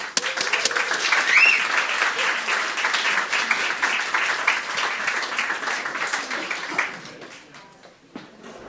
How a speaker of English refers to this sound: Do lots of applause for Mark!